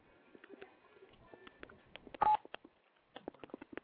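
Phone keypad tones beep in quick, uneven bursts, dozens of short presses with a louder, slightly longer tone midway, then another rapid flurry near the end; no one speaks.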